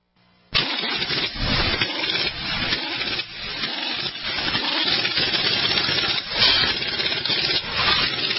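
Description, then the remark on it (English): After a brief silence, a pink Cadillac engine abruptly fires up and settles into a steady, rumbling idle that stays loud for several seconds with no voices. “the engine emailer. Oh, that pink Cadillac”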